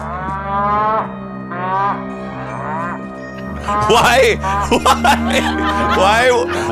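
A live turtle gives three drawn-out, wavering moos exactly like a cow, fairly loud, followed by a harsher, louder burst of throaty, sputtering moaning calls.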